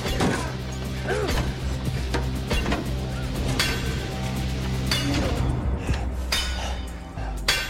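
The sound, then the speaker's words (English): Someone beats relentlessly at a metal spike: loud, irregular clanging blows with a ringing metallic edge, repeated over a steady low rumble throughout. “Baines beats relentlessly at the spike.”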